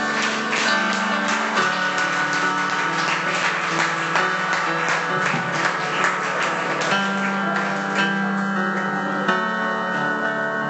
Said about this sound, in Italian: Un applauso a Gesù, amen.